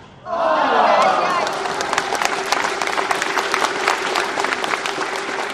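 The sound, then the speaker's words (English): A crowd of about 400 at a badminton men's singles final bursts into loud applause and cheering, voices swelling at first, then settling into steady, dense clapping that continues throughout. “after which I asked him if he'd been aware of the way the excitement of the crowd, which numbered perhaps 400, had swelled the longer the points had gone on.”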